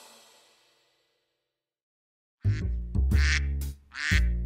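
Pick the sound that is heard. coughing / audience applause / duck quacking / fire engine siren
duck quacking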